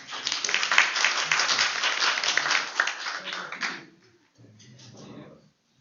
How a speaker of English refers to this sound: Right, a round of applause.